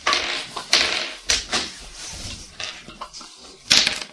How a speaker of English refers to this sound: So you're spinning it around, and we're going to say a chance to hit one more goblin, roll a d20.